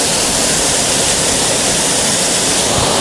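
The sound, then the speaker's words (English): A steady, loud roar of a waterfall crashing into a pretty big plunge pool in front of it, among slippery rocks, a dense unbroken hiss spread across highs and lows with no pauses and no voices. “Yeah, there's a pretty big plunge pool in front of this waterfall, which is rather marvellous.”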